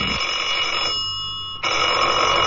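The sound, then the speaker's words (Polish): A telephone rings with a sustained electronic trill, two bursts separated by a brief pause, fairly loud, with no voices over it. “A teraz już telefon nie będzie dzwonił.”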